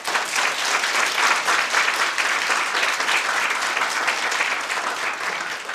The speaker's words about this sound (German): Hier wird geklatscht für …. Er ist Kinderliedermacher und heute auch Chorleiter.